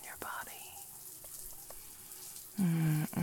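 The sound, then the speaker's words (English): Steady hiss of running shower water fills the whole clip, with soft whispering over it and a short, louder voiced sound near the end. “Through the water on your skin.”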